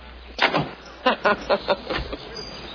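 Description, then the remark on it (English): A vehicle's sliding door rumbles along its track, followed by a quick run of mechanical clunks and thuds as doors shut, fairly loud. “Watch the doors.”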